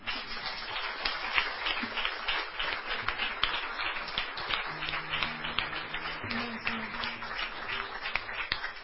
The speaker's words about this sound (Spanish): ¿Qué os parece, hermanos, si le damos un aplauso a nuestro Señor?